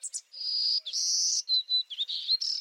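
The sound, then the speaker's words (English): A golden-cheeked warbler, a small yellow, black and white bird, sings its buzzy, high-pitched song of several wheezy, sustained phrases, clear, in Texas Hill Country. No voices. “Boldly dressed in yellow, black, and white, these little birds and their buzzy song take center stage in Texas Hill Country.”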